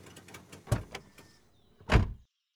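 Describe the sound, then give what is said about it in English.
Automatic sliding glass doors of a shopping mall open: a couple of sharp clunks, a thin motorized whir, then a heavy thud as they stop, with no one speaking. “We got out and I took the lead through the sliding glass doors.”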